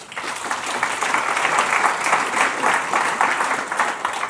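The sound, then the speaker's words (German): Sustained applause from an audience for the members of an editorial team, a dense wash of many hands clapping at steady loudness for several seconds, with no voices standing out. “Und dieser Applaus gilt dann auch gleichzeitig an die Mitglieder dieses Redaktionsteams, dass sie diese Aufgabe übernehmen.”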